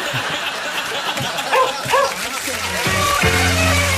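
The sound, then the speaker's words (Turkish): A couple of faint, distant dog barks sound over a noisy, hissing background, followed by a steady low droning hum that comes in toward the end. “Uzaktan köpekler alıyor.”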